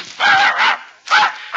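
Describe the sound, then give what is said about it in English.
A blue-eyed dog barks loudly, about four sharp barks in quick, uneven succession with brief pauses between them. No one speaks. “You sure you don't want that blue-eyed dog?”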